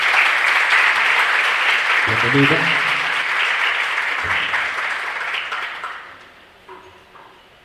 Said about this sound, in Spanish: También vamos a darle un fuerte aplauso.